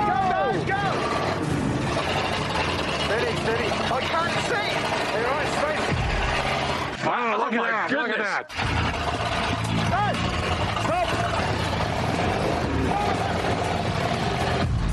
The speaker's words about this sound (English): Oh, they sound like the engines are running well, because they've had a lot of trouble with them, haven't they? That sounds pretty good now.